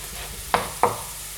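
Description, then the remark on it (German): Carrots sizzle in a hot frying pan with a steady hiss, broken by two quick scraping clicks about a third of a second apart, as if stirred. No one speaks. “So, ihr hört es, meine Pfanne ist heiß. Die Karotten brutzeln da jetzt schön vor sich hin.”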